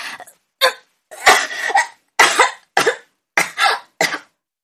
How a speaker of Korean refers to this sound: 갑자기 몸을 움직여서 은하가 기침했다. 아저씨가 등을 몇 차례 쓰다듬어주고 나서야 진정했다.